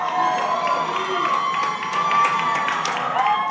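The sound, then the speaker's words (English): A crowd outside a Baltimore courtroom cheering and shouting as Adnan Syed walks out after his release from prison, a sustained dense wash of voices with scattered higher whoops rising above it, fairly loud and steady throughout. “Outside a Baltimore courtroom yesterday, a crowd cheered when he walked outside.”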